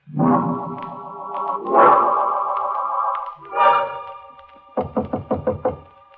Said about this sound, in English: He's come. He knocks on my door. Fate knocks. Patiently. Once, twice, three.